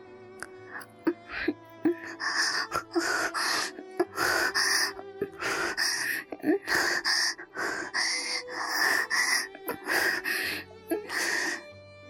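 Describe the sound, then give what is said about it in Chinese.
A person gasps and pants heavily, with a rapid series of loud, breathy, voiced breaths close to the microphone, repeating in an uneven rhythm throughout with no words spoken. “我大口大口地喘息着”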